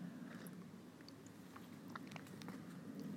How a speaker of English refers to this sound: Okay, let's go in live for the first sip of cold brew cascara.